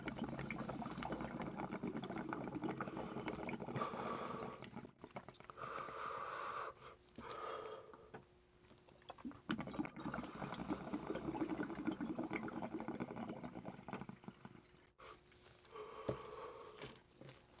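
Water bubbles and gurgles steadily through a Stündenglass gravity bong during a hit of Cherry AK-47 cannabis, a loud churning wash that surges in several long bursts with brief breaks between them, with no talking.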